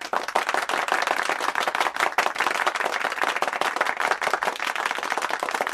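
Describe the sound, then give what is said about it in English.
A steady round of applause from a group, dense overlapping claps filling the whole stretch at an even, fairly loud level with no voices. “We'll give him a round of applause.”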